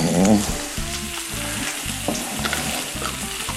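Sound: food frying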